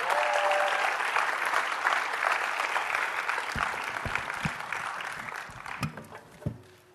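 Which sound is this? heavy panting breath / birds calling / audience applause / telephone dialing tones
audience applause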